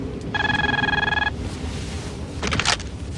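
A telephone rings once in a steady, high-pitched electronic trill lasting about a second, followed by a brief rustling clatter, with no voices present.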